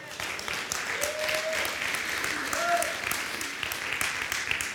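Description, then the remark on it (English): An audience claps for God steadily in a dense wash of hand claps, with a couple of brief voices rising faintly above the applause. “Can you give him a hand clap?”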